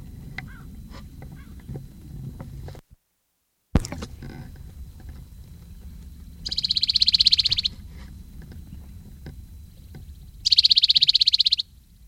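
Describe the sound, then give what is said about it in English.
Two birds trade calls, one in the cove and one below the rim, at a bench just west of Moline Fence: a loud, high-pitched buzzy trill lasting about a second, then a similar answering trill a few seconds later, over a steady low rumble with no talking. “This call exchanged between two males, or two birds, one in the cove, one below the rim.”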